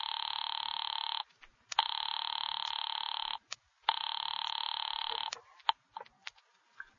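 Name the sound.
telephone line ringing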